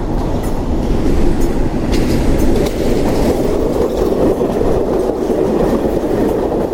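A train rumbles past at Belgrano railway station in Buenos Aires, a loud, steady roar of wheels and carriages with faint rhythmic clatter on the rails, filling the whole stretch without any voices.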